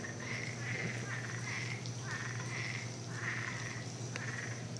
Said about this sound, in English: Oh, hear the frogs?